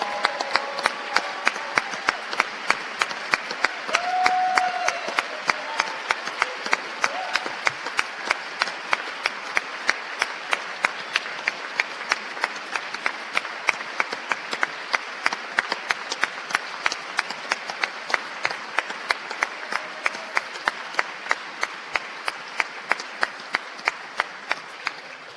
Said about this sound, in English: And behind them, we also have children from Discovery Place Daycare who are here to show you their American dream. Let's give all these kids a round of applause.